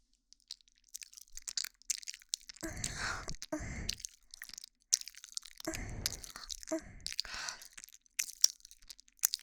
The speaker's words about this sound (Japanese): このまま分身をあなたの耳元で咀嚼してあげる。